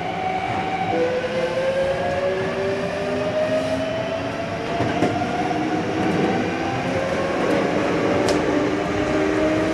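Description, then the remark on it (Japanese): A subway train rumbles steadily along the rails, with a continuous low roar and drawn-out whining tones sliding slowly in pitch. Faint clicks and rattles come through, and no one speaks. “Thank you for taking the subway.”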